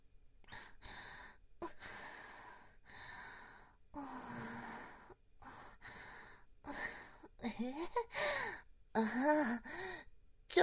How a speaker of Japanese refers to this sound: 息遣いが荒くなってきました。